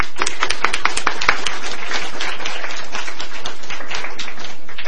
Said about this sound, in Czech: Všichni vám tleskáme.